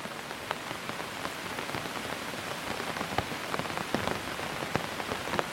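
Steady rain falls in a dense, hissing wash, with scattered sharper drops tapping and pattering on a hard surface throughout. No voices or other sounds.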